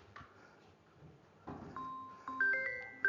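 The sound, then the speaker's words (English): A mobile phone rings with a melodic electronic ringtone, a run of clear, stepping beeping tones that get louder as the tune plays, after a second or so of faint background noise. “I normally mute my phone, but for reasons other.”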